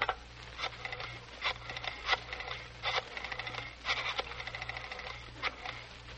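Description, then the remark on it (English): A telephone being dialed: bursts of quick mechanical clicking that start and stop several times over a steady low hum, with no one talking. “Now, may I use your phone, please, to make sure Miss Grable's folks are at home?”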